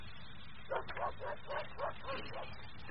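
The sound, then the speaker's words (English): Dogs barking in a quick, steady run of about seven yaps over a couple of seconds, moderately quiet, over a low background hum. “Dogs haven't slept all night. They smell their masters coming.”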